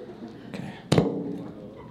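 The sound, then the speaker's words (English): A single abrupt fart bursts out with a sharp onset and a brief low, rumbling tail, standing out loudly against a quiet background hum, during a ghost hunt in a building. “Fart again? I farted again.”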